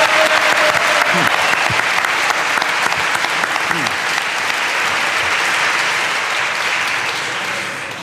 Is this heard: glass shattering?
no